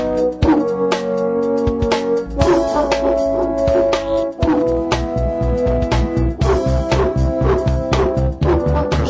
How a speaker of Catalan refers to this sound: Ara sonarà un gos al teu mòbil? Sí, vaig trobar-ho, no sé, divertit. Diferent. Sí, diferent. Bé, bé, amb una base musical clàssica, però amb uns tocs així estranys.